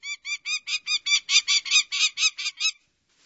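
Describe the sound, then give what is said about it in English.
A prairie falcon calls in a rapid series of about thirteen harsh, scratchy, high-pitched notes that swell in loudness before stopping abruptly, with no voices present. “In such places, listen for its call, which is very similar to this prairie falcon.”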